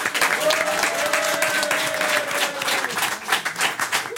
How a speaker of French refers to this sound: Applaudissements pour Dominique Magloire et Gilbert Jouin.